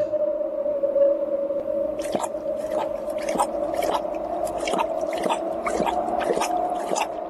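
A thirsty dog that cannot get down into a well whimpers in a long, continuous high-pitched whine, with short breathy bursts, like panting, pulsing through it at a steady rhythm. It is fairly loud, and no one speaks.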